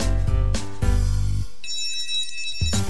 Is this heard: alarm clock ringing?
yes